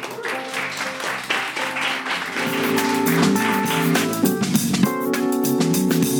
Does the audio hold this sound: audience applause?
yes